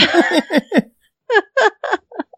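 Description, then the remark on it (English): A run of hiccups: a quick cluster of four short voiced jolts, a brief pause, then three more and a few fainter catches trailing off, with no talking. “Excuse me, those damn hiccups are still hanging around.”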